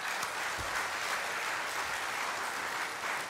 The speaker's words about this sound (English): Well, just a round of applause for everyone. Thank you for sharing.